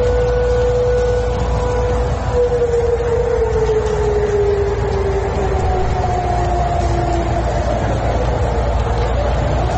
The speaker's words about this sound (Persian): شنیده شدن صدای آژیر در بخش‌هایی از تهران و تغییر مسیر هواپیمای شرکت ترکیش، مسئولان دلیل این اتفاق را بدی هوا می‌دانند.